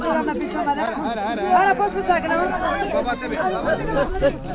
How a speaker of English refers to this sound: As the RISE truck pulls up on an unpaved, waterlogged street in the Kazdazan neighborhood, it's immediately surrounded by a crowd of men, women, and children.